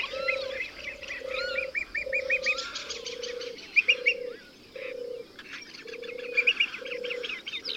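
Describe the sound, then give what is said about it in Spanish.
Migratory birds call in a lively chorus of chirps and trills in Cabañeros around the spring equinox (21 March), layered over a steady, evenly spaced low cooing note that repeats throughout; no one speaks. “En esta sala vas a ser testigo del espectacular tránsito de aves migradoras que se produce en Cabañeros en torno al 21 de marzo.”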